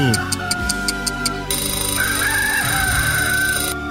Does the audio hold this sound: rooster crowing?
yes